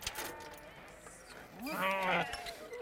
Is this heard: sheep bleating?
yes